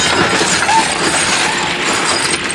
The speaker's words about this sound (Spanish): Da un espectacular salto y se estrella contra la ventana.